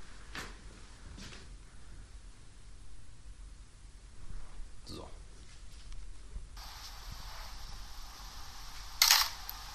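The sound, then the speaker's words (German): A Minolta film camera's shutter fires several times at different exposures, at irregular intervals, each a crisp mechanical click-clack of varying length, over a steady background hiss; the final and loudest release is the self-timer. “Also das ist die gleiche Kamera mit mehreren verschiedenen Belichtungen.”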